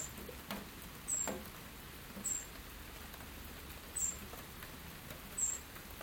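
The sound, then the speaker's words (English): A wren in a garden gives four short, high-pitched chirps spaced a second or so apart, each a quick squeaky note over a steady, soft patter of background noise. Two wrens are there, one under a tree and one on top of a bird feeder house. No one speaks. “That's two wee wrens. Can you hear that wee chirp?”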